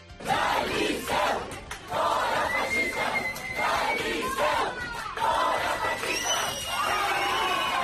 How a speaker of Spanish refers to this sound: Eso es lo que gritaban, fora fascistas del liceo. Fíjate tú que... ¡qué valientes!